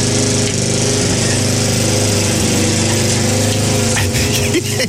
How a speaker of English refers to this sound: And I'm hoping a bald man mowing his lawn with a petrol lawnmower helped as well during that job.